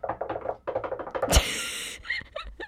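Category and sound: impact, knocking on wood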